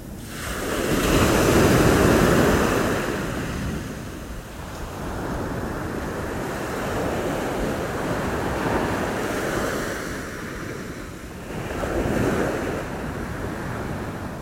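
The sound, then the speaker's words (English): Ocean waves wash onto the shore in a steady, broad roar, swelling loudly near the start and again later, with a faint wind rumble and no voices. “Just listening to the sound of the waves.”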